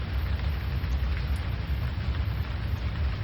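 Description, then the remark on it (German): Steady rain falls all around in a continuous, even hiss with a deep low rumble underneath, moderately loud and unbroken throughout, with no voices. “Langsam wandert deine Aufmerksamkeit von der Weite der Landschaft, die vor dir liegt, hin zu dem Regen, der dich umgibt.”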